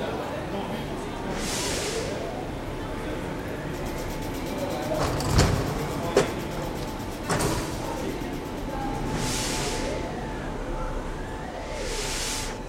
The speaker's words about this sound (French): Dans la gare, les trains glissent, j'attends sur le quai